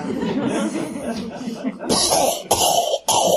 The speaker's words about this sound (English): The gruesome cough, you know, the whole lot.